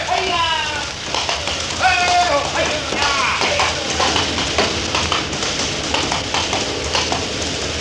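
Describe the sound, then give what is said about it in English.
Guards' horses, whipped up by their riders, gallop hard, a dense, continuous rush of hoofbeats, while voices shout and call over the noise near the start. “The guards are whipping up their horses.”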